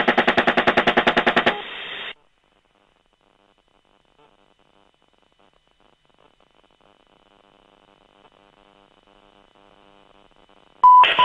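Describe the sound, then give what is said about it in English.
A rapid burst of heavy gunfire from a helicopter gun firing at a disabled van: a fast, even string of loud shots for about a second and a half, then a short hiss, long near-silence and a sudden loud noise. “Bud, shoot it.”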